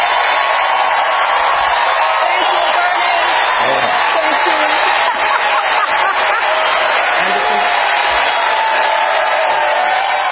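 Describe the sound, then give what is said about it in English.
A large audience erupts in sustained applause and cheering after Bernie Sanders says "Enough of the emails", a dense, steady roar of clapping that holds at full strength for about ten seconds, with occasional whoops rising from the mass. “Bernie Sanders with a huge applause after saying we've had enough, as you just heard there, of the emails.”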